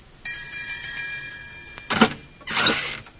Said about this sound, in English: This must be the doorbell. Here goes.